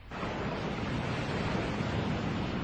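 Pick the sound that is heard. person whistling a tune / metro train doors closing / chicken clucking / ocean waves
ocean waves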